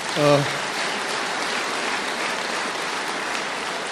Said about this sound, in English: Based on that applause, I really do, on behalf of the president, I want to thank you all in agriculture for having borne the brunt of these retaliatory tariffs, but yet you understand the long game.